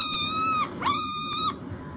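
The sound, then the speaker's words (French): A kitten meows twice in quick succession, each cry high-pitched, drawn out and dipping at the end, clear with no voices around it; a recording taken from the internet, played to a cat-translation phone app. “au début, j'ai trouvé ça bizarre, mais en fait, c'est un chaton. C'est un bébé chat.”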